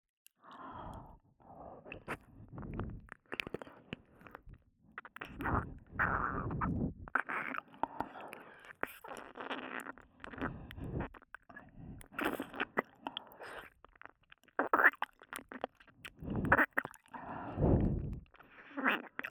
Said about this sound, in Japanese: あなたの平たい耳、たくさんペロペロしてきたから、コツ、覚えちゃったわ。確か、こういう風に、すするのも好きだったわね。